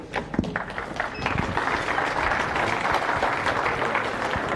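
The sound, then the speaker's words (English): A large audience at a talk applauding, dense sustained clapping that swells in the first second and holds steady at a fairly loud level, with a few sharper individual claps standing out near the start. “Thank you for the applause.”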